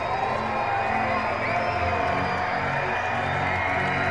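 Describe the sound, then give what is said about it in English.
A ballpark crowd of almost 5,400 at a night baseball game cheers in a loud, continuous roar of many voices, with scattered whoops and shouts rising out of the steady din. No one speaks. “crowd of almost 5,400 making noise tonight.”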